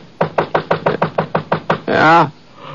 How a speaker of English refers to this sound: Must have been about 4:15 when I heard somebody pounding at the door.